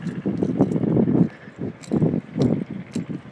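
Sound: strong wind outdoors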